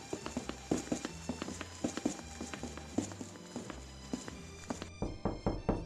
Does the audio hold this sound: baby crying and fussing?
no